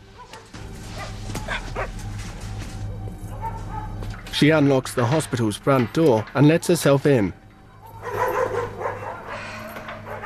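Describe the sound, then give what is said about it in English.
A dog barks from inside a cage, a loud, rapid run of about eight sharp barks in a row, following a calm narrating voice over a steady low hum. “As he lifts his head groggily, a dog barks from inside its cage.”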